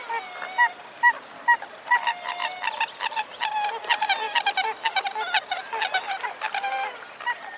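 A pied-billed grebe, a marsh bird, calls with a long run of hollow, honking notes, first spaced apart and then quickening into rapid, chattering bursts, loud against a quiet background.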